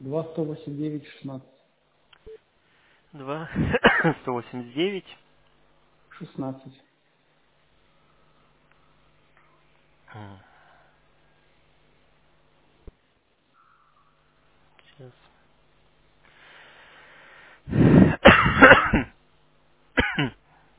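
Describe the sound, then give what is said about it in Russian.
Several harsh coughs and throat clearings in separate bursts, a cluster early on and a louder, rougher fit near the end, with quiet gaps and faint background noise between them; a lingering cough left over from an illness a week earlier. “Да нет, я неделю назад болел, просто кашель остался.”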